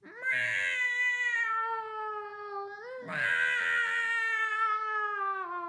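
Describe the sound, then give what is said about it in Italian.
A cat yowls loudly in two long, drawn-out wailing cries, the second rising sharply before sliding down, with no talking, as it leaps at a man's face, spitting and scratching. “e gli saltò in faccia, sputando e graffiando.”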